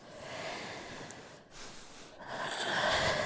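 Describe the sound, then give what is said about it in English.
A person yawns, a long breathy inhale that briefly breaks off and then swells into a louder, airy exhale. No talking, just the drawn-out breath. “Yawn.”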